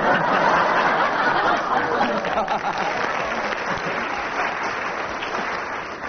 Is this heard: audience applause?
yes